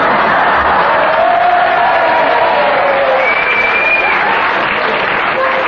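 A studio audience bursts into sustained cheering and applause, dense clapping mixed with whoops and shouts that hold steady and loud throughout, with no clear speech on top.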